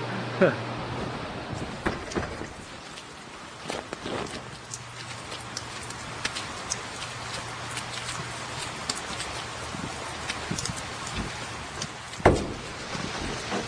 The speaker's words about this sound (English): Pouring rain. We're in the greenhouse. You can hear the rain just pounding on the roof.